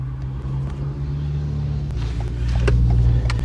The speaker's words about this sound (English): But to get there, I had to go by car.